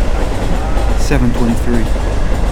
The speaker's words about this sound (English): I wait. I hear the train approaching. The train arrives.